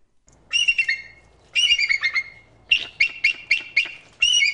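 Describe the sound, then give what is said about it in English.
A bald eagle named Paige, a female permanent resident at the Audubon Center for Birds of Prey outside Orlando, Central Florida, calls in three loud bursts of high, chattering squeals, the last a quick series of sharp piping notes, clear with no talking. “She's a permanent resident at the Audubon Center for Birds of Prey outside of Orlando, and she's a very territorial bald eagle.”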